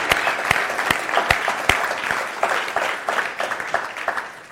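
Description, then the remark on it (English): An audience applauds steadily, a dense wash of many hands clapping at once, with a few sharper individual claps standing out early on before the sound evens into a continuous patter. “And I just want to say thanks to, I know everybody had a hand in that, but I mean, what an amazing, just give yourselves a round of applause, give them a round of applause.”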